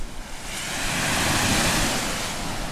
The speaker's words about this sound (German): So, ihr hört jetzt, glaube ich, schon das Meer rauschen. Wir sind jetzt nämlich zum Strand gelaufen.